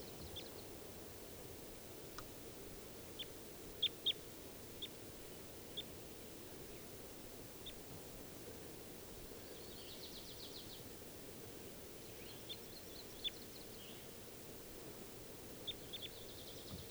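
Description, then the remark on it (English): At least three birds, bird 391, another male and a female, call from the trees in short, high chirps and a few brief trilling bursts, scattered and faint over a steady rushing hiss. No one speaks. “There are at least three birds in the trees.”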